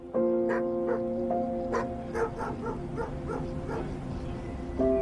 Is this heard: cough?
no